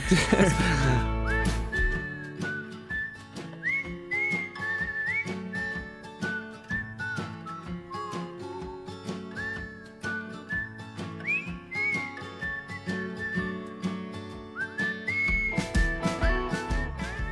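A person whistles a bright, wandering melody, clear, carried over steady instrumental backing with a pulsing beat for the whole stretch.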